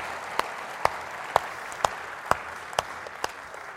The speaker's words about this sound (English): We want to show that we really appreciate them. So we do that by clapping our hands, don't we? I think everyone deserves a round of applause for what they did today, don't they?